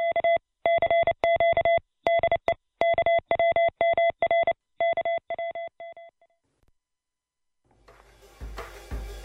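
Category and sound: signal or alarm, morse code tones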